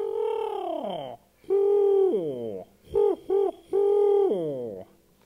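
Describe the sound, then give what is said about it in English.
A screech owl calls alone: two long, quavering whinnies that slide downward in pitch, then two short hoots and a final descending trill. “They'd get darker and darker, and you might hear a screech owl.”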